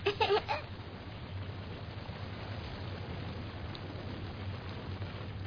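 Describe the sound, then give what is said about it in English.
Steady black rain from bombing hisses continuously at a moderate level over a low, constant rumble, with a brief louder clatter at the very start and no voices. “Black rain from all the bombing.”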